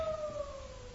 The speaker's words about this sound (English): What? Coyote.